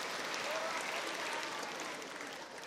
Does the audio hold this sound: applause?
yes